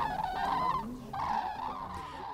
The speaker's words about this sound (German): Und ich sag's euch, wenn man das live erlebt, dieses Kranichtrompeten, oder wenn man die Vögel im Vorbeifahren sieht, zurzeit sammeln sich ja ganz viele auf den abgeernteten Feldern in Brandenburg zum Beispiel, das macht was mit einem.